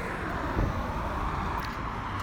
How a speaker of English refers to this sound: Going to the part of this trail where it's connected to the highway. It's actually underneath the highway. And it's just so loud. Like, it's something I've gotten used to at this point. I just feel super stressed with all these cars around.